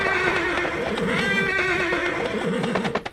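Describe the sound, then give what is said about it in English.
A horse whinnies loudly, a long wavering neigh filling the moment, while hooves clip-clop underneath and a few sharp knocks land at the end, as horses are taken up to the paddock before a race. No one speaks. “All right, let's get the horses up to the paddock or whatever the hell it's called.”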